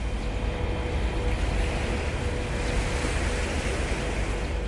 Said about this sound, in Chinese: 啊，係啦，呢個係啲海浪聲嚟嘅，即係係今日咧應該係呢度比較聽到啲海浪聲明顯啲嘅，咁跟住有少少風聲啦。